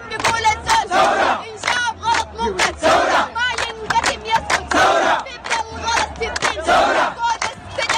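A large protest crowd against Omar el-Bashir, demonstrating in front of the army and intelligence services headquarters, chants in a steady, repeating rhythm, loud rising bursts of many voices, while a single woman dressed all in white, standing on a car, leads with sung lines between them in call-and-response.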